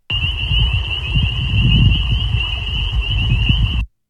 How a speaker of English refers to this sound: And yeah, these are incredibly common frogs. Normally you don't hear just one, you hear them in a full chorus, which is what we'll listen to next.